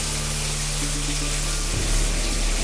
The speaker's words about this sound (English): He starts hot water in the sink and shower.